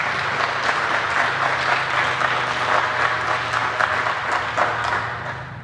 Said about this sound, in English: A big applause for